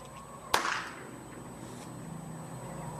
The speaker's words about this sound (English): I have my cardboard and my blood pack taped to it. Now all you need to do is set the firecracker inside and light it.